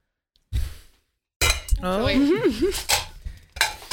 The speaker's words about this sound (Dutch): Oké, dan ga ik stol voor je snijden.